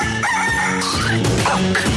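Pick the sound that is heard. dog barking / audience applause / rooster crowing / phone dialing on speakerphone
rooster crowing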